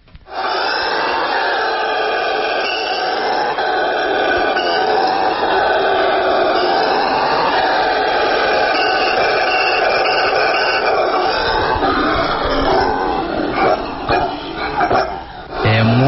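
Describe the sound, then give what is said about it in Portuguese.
Howler monkeys roar in a sustained, loud, guttural chorus with rumbling, overlapping calls. The roaring stays steady, then breaks into choppier, pulsing bursts near the end. No talking. “Então é o seguinte, …, apresente o tradicional e intimidador aos seus predadores, ronco do bugio.”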